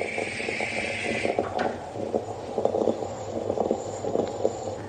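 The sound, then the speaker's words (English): A moka pot gurgles and sputters on the stove while brewing coffee, a steady bubbling with a brief high hiss at the start, then uneven spurts and pops as coffee pushes through. “This is the sound of a mocha making its coffee.”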